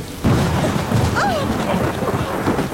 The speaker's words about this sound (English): The lightning had hit the huge old oak tree in the garden. As the rain dampened the flames, we saw that nothing remained but a blasted stump.